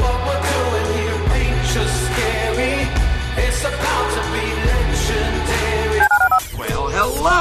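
Telephone keypad tones beep out a dialing sequence over a busy, steady musical backdrop, fairly loud, with a sharp shift near the end.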